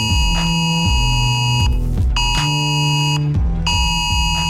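A loud emergency alert warning tone from a test of the nødvarsel emergency alert system blares in harsh, buzzing electronic bursts, steady piercing high pitches layered over a throbbing low pulse, cutting out briefly twice before sounding again.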